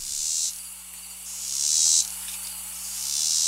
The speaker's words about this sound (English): Numerous annual cicada species occur in Missouri. Here's a few you may recognize. The first one is the Robinson cicada, which consists of slow pulses.